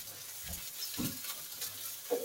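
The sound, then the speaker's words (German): Shrimp, squid, blue mussels and clams sizzle together in a frying pan, a steady hiss broken by a few soft low knocks as the pan is shaken and stirred. No one speaks. “Miesmuscheln und Venusmuscheln kommen alle in die Pfanne. Wunderbar. Und die schwenken wir jetzt auch an und die bleiben jetzt auch in der Pfanne.”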